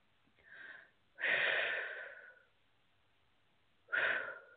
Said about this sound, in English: So just FYI, I do a lot of deep breathing to help move the processes along. So that's going to be happening a lot, I foresee, in this session.